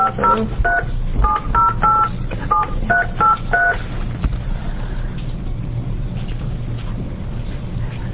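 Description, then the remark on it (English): A telephone number being redialed after a wrong number: about ten quick touch-tone beeps in a brisk, uneven rhythm, then they stop, leaving a steady low rumble of background noise. “That's the one I just dialed.”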